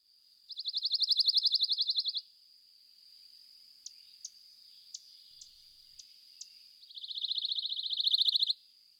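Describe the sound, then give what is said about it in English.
A pine warbler sings two rapid, even trills of quick repeated notes, each lasting under two seconds, separated by a pause filled with faint high insect hum and a few soft clicks. “Let's hear from the pine warbler.”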